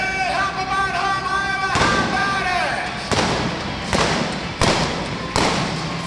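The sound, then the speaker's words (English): In a mounted shooting competition, a rider on horseback fires five loud, sharp shots from two .45 caliber pistols loaded with special blank ammunition, cracking out in quick, uneven succession and popping red and white balloons set on barrels, following a few seconds of steady tonal background sound with what may be voices. “riders shoot balloons using two 45 caliber pistols loaded with special blank ammunition”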